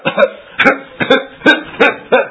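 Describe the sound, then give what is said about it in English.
Six short, forced coughs in a quick, even rhythm, fairly loud, an exaggerated fake cough imitating a child who wants a cough drop, with no talking. “Have you ever heard a child, they see mom get out cough drops and all of a sudden they start coughing?”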